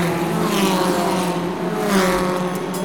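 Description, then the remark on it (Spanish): A loud, steady engine roar from a Formula 1 racing car, with a constant high-pitched drone and whirring and no one speaking. “Más rápido que un auto Fórmula 1.”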